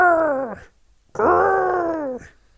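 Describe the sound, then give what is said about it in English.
A person imitates a penguin with two strained, high-pitched falsetto growls, the first short and the second longer, each sliding slightly downward before breaking off, separated by a brief pause. “Penguins grr. They growl with a high. They sort of, it's a falsetto growl.”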